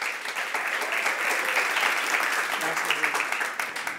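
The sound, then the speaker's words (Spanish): A crowd claps steadily and loudly for about four seconds as a guest entrepreneur is introduced, a dense patter of many hands with a faint murmur of voices mixed in beneath the applause. “Demos un buen aplauso”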